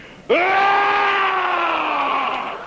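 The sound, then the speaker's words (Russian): A petrel's cry rings out once, a loud, drawn-out wail that holds steady for about two seconds and sags slightly in pitch as it fades. No one speaks. “Черной молнии подобной, по крылам волны касаясь, то стрелой взмывая к тучам, он кричит.”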